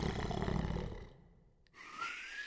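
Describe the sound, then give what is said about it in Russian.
A loud, deep rasping snore from the witch Yaga carries through the forest, rumbling for about a second, fading into a soft breath, then ending with a thinner, whistling exhale. “Вскоре по лесу разнесся ее могучий храп.”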